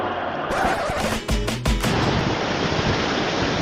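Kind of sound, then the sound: nature, atlantic ocean waves breaking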